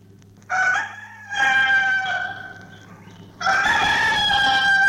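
A rooster crows loudly, three strong harmonic calls in quick succession, each long and drawn out, with no voices present.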